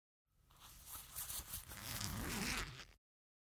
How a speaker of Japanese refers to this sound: ほら、チャックを下ろした。私は器用だからな、足の指でも繊細な動きができる。